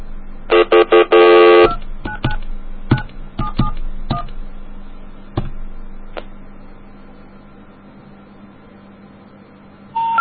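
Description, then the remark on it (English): A fast run of touch-tone telephone dialing beeps, followed by a scattering of separate keypad tones and clicks spaced out over several seconds, fairly loud, with no one speaking. “Now there's a phone right next to it with a number almost the same. Let's call it.”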